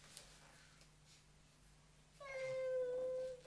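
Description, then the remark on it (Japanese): A single drawn-out cat meow, fairly loud, from a cat that has climbed up onto something, rising out of quiet about two-thirds of the way through and holding steady for about a second before stopping. “なんで乗ってんの、猫さん。”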